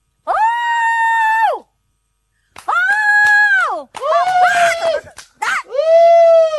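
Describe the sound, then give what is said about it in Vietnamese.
A woman hoots loudly to call her husband, who did not answer her: several long, sustained high-pitched whooping cries with brief pauses between them, ending with a short yelp and one more drawn-out hoot. No words are spoken. “Chứ tôi kêu ông không lên tiếng, tôi phải hú lên. Cái tiếng tôi hú thì mới lớn tiếng được chứ.”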